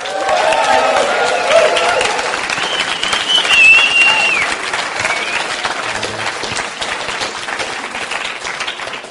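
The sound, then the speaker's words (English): Steady, loud applause from a large crowd welcoming the evening's last testimony speaker fills the whole clip, dense and continuous, with a brief whistle or cheer rising above it before the clapping gradually eases off. “Right, I'm getting a bit nervous now as you start clapping.”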